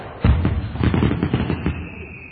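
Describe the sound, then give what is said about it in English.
A sudden burst of fireworks goes off, a rapid, loud string of crackling pops and bangs lasting about a second and a half before fading out, with no one talking. “And be careful of the box of fireworks, because”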